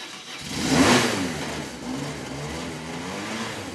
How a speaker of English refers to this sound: instead he rides his beefy BMW motorcycle a few miles to his office